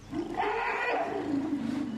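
A single deep, throaty animal roar in a rainforest rises and sustains for about two seconds, loud and close, with a rough, rumbling tone that slowly falls in pitch.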